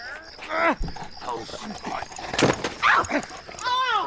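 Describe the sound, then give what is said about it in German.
A dog barks and yips repeatedly, with excited whimpering pitch sweeps, amid a busy, noisy scene with people talking over it. “Mann, nehmen Sie jetzt scheiß Köter hier weg!”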